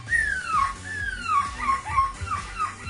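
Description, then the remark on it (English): A 9-year-old child imitates a seagull, letting out a shrill series of about four falling screeches in quick succession, each squeal sliding downward in pitch. “Inspired by a 9-year-old that does the best seagull impersonation I've ever heard.”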